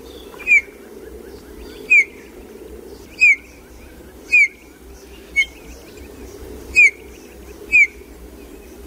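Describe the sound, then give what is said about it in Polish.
Small wintering birds give short, bright chirping calls about once every second or so, clear, over a low steady background rumble with no talking. “Charakterystyczny i sympatyczny dźwięk. I to są ptaki, które wprawdzie tak naprawdę są z nami cały rok, ale jednak jakoś tak zimą, no bardziej są widoczne.”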